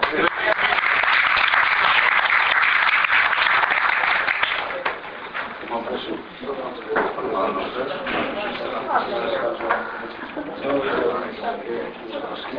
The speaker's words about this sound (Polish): Także wszystkiego dobrego, jeszcze raz Państwu gratuluję i dziękujemy za te życzliwe brawa i mamy nadzieję, że zaraz będą takie same.